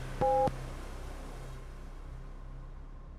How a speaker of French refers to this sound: Restez à l'écoute, l'épisode commencera après le bip!